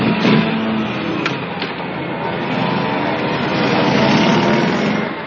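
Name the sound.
motorcycle engine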